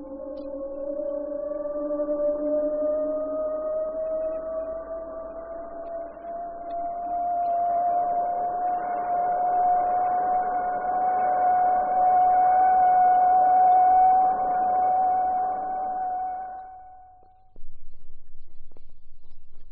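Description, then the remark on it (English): Vampire jet aircraft engines warming up on the tarmac at Ohakia Air Force Station: a steady high whine that slowly climbs in pitch over a broad roaring rush, holding loud for about seventeen seconds before cutting off abruptly. “Sound of jet aircraft engines warming up on the tarmac at Ohakia Air Force Station.”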